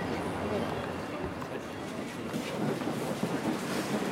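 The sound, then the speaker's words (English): Hundreds of people standing outside a railway station at 9:15 fill the air with a dense, steady murmur of many overlapping voices, continuous and fairly loud throughout, with no single speaker standing out. “It's 9:15 and we just got to the railway station and there's a huge crowd of people standing outside.”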